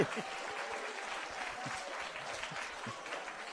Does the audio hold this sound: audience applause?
yes